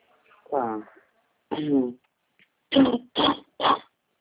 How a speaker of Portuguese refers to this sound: Uma tosse alérgica.